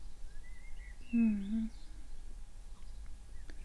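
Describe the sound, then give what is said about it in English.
Faint bird chirps and short warbling calls over quiet outdoor ambience, with a brief low voiced hum partway through. “The birds are lovely.”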